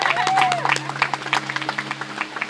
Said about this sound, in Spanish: Vamos a dar un aplauso a la jefa de aquí.